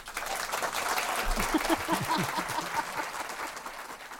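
An audience applauds a guest steadily, a dense wash of many hands clapping at once that holds fairly loud throughout, with a few brief murmurs of voices mixed into the middle.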